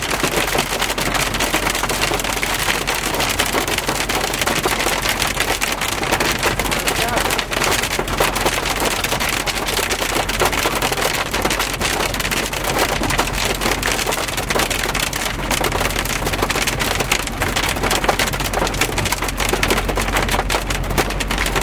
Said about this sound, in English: Hailstorm!